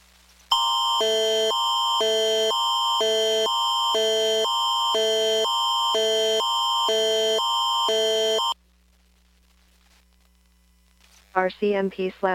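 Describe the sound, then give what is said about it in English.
A loud emergency Amber Alert broadcast tone, for an alert issued by Terrace RCMP, blares for about eight seconds, two harsh pitches rapidly alternating in a steady pulsing pattern, then cuts to silence before a voice begins speaking. “Amber alert issued by Terrace RCMP.”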